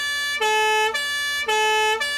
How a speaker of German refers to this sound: Die Polizeisirene, leider kein Treffer.